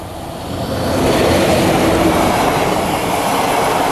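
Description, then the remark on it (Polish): A train rolls past on the tracks, a broad rumbling roar that swells within the first second and holds steady and loud, with a faint metallic rattle of wheels. No voices. “Koła pociągu rozwałkowywały te aluminiowe monety, jak ciasto na pierogi.”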